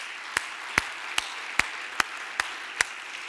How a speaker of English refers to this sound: If you will give the Lord a hand clap of praise before you are seated. Thank you, Jesus.